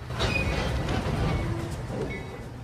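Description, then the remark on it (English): A train, the Suburban Express, rumbles in on track 2 with a steady low roar, and thin metallic wheel squeals briefly ring out over the noise as it pulls into the station. “The Suburban Express has arrived in the ghetto on track 2.”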